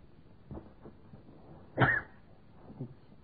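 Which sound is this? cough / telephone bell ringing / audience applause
cough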